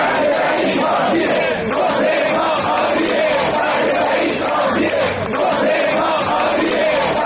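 Dozens of nurses and medical staff from hospitals in Sanandaj, Kurdistan province, shout and chant together on a Saturday in front of the city's governorate building, protesting unpaid wages and benefits. It is a steady, loud roar of many voices, with rising and falling waves of yelling that continue without pause throughout.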